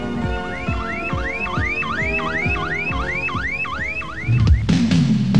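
A car alarm whoops repeatedly in a fast, steady cycle of rising electronic sweeps, loud, before cutting off into a brief burst of noise at the end, in a radio advertisement for Withington Car Radio and Alarm, Wilmslow Road, Withington.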